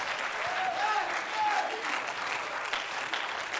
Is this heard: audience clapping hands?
yes